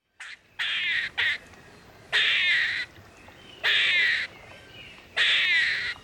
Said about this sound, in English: It's fairly easy to distinguish between the gentle rustling of chipmunks and the loud crashing of gray squirrels as they travel through the woods. Here's the gray squirrel's chatter.